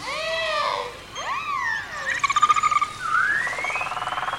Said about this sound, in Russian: А ты тоже попался, Чевостик, потому что это не рыбы вовсе, а млекопитающие. Как и киты, помнишь, я тебе рассказывал? Это дельфины.